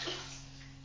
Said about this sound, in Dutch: Daar? Ja, douchen doe je daar, maar je kunt ook zo douchen. Hè? Zo.